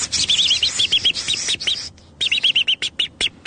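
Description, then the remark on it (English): A robin's alarm call: rapid, sharp chirps repeated in quick bursts, loud, breaking off briefly before another insistent run of calls. “Robin's alarm is what she called it.”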